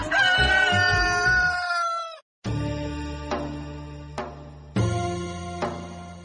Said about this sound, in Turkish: horozunun sesini duydunuz sevgili dostlar.